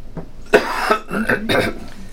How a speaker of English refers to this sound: My coughing has not been bad for the last day or two, and I thought I was going to do fine, but all this talking has really made it worse.